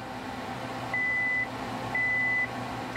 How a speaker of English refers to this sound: The beeping means an electric current is going to pass through the fuse wire and explode my snack. You might expect blowing up an almond to make a big bang noise or something. But it actually doesn't.